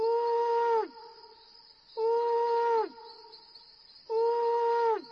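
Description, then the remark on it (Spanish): An owl hoots three times, evenly spaced about two seconds apart, each call a long, steady tone that sags in pitch at the end. The hoots are clear, with no voices. “tanto que el búho tuvo que ulular 3 veces para despertarlo.”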